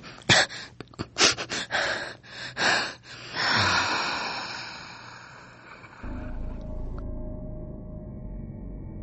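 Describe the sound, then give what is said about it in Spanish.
A teenage boy lying on the floor watching a video breathes heavily and raggedly, with a quick series of sharp gasps and wheezes, easing into a long, strained exhale over a low steady hum, with no talking. “Escuchas la respiración del menor de edad.”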